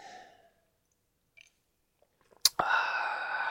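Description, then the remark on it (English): A soft breath and a few faint mouth clicks, then a sharp wet gulp of beer followed by a long, breathy exhale of satisfaction. No one speaks. “And you can listen to me take one more sip of beer and then I'll say goodbye.”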